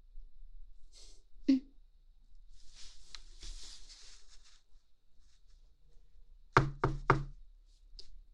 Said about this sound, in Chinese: 弟弟，是有人敲门吗？开门去！谁呀？是快递员吗？